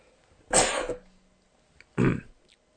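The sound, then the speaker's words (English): Two harsh coughing bursts from one person, the first longer and raspier like a throat clear, the second shorter, separated by a brief pause, with no talking. “I really need a cough button.”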